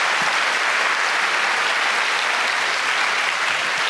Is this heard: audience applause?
yes